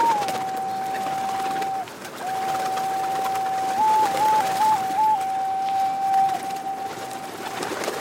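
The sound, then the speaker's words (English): Resident pigeons coo and burble steadily for several seconds, moderately loud, with a wavering, sustained tone running beneath a busy outdoor background; no one speaks. “Say hello to your resident pigeons.”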